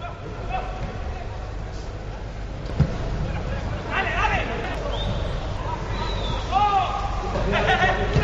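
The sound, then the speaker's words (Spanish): The empty Camp Nou stadium during the Barcelona vs Las Palmas football match played behind closed doors: steady low rumble with scattered, indistinct shouts and calls, a single dull thud of a kicked ball, and no crowd noise at all. “Eso era lo que se escuchaba en el Camp Nou en ese partido ayer entre Barça y Las Palmas.”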